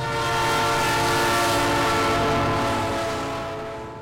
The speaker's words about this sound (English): Sometimes, one of the couple's children gets the conductor to honk his horn.